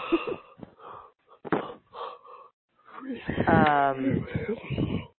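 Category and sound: human body sound, person yawning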